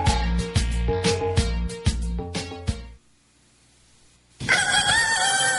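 A loud rooster crow bursts in near the end after a short pause, following a few seconds of rhythmic, thumping beat-like hits. No one speaks.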